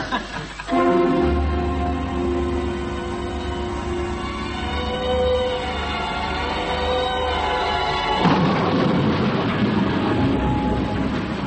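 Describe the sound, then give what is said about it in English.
A train in an old film chugs slowly through the night across the Yorkshire countryside, England, 1935: a low steady drone under a long, sustained whistle-like tone, then a louder, rougher rush of rolling noise. No one speaks. “England, 1935, and across the bleak Yorkshire countryside, a lonely train chugs slowly through the night.”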